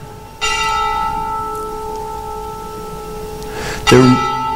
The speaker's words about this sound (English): I'll wait for the last bell.